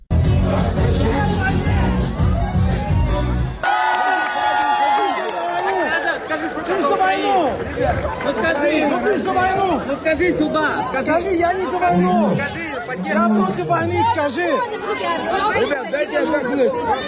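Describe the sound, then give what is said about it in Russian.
A loud, dense crowd of dancing party-goers roars with overlapping chatter and shouts throughout, with music-like harmonic tones in the first few seconds before the babble takes over. A singer performs one of his songs among them, apparently in Dubai, and one party-goer tries to shout "No war" into the microphone. “видимо, в Дубае, поет одну из своих песен в толпе танцующих участников вечеринки.”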